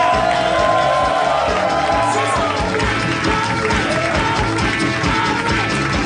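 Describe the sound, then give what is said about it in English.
A large live audience at Harmontown in the Nerd Melt Theater at Meltdown Comics cheers loudly and continuously as Dan Harmon is welcomed, with whoops and shouts rising above a dense wall of crowd noise and some clapping throughout. “What a crowd!”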